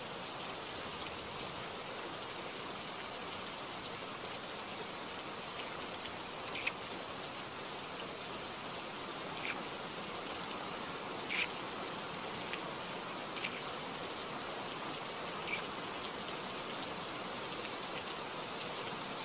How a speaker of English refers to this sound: I can't tell if it's the fact that the rain is freezing, but I think that kiss just left me breathless.